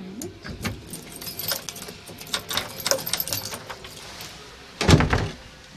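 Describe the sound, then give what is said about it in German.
Keys jangle and clink in a series of bright metallic rattles, followed by a heavier clunk near the end as the lock of a church door turns and the door opens. “Wir gehen einfach mal hinein, oder? Haben Sie einen Schlüssel dabei?”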